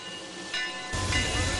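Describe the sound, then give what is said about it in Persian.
A small restored locomotive, Dan Markoff's Eureka from Nevada, runs at a railroad festival, giving off a steady broad hiss, and a heavier low rumble swells in partway through. No one speaks. “یکی از لذت‌های مخصوص جشنواره راهن علاوه بر همه قطارهای دورانگ و سیلورتون، یورکای دن مارکوف از نوادا.”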